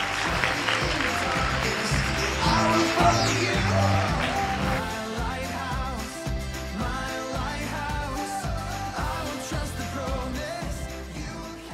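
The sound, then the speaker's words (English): A crowd claps for people who spoke up, in a dense burst of applause that swells over the first few seconds, then fades under steady, beat-driven music that carries on to the end. “Those who actually were brave enough to open their mouth and verbalize, give them a round of applause.”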